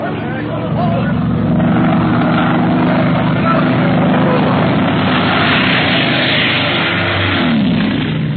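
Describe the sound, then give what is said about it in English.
A propeller plane dives low over the city, its engine roaring loud overhead, the drone steady and heavy for several seconds before the pitch bends downward as it sweeps past. “Is a madman flying that plane? Why is he making such dives and so low?”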